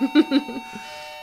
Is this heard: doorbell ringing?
yes